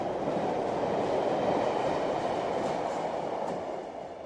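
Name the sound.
train running on rails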